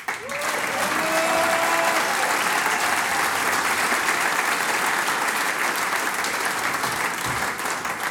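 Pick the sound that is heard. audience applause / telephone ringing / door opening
audience applause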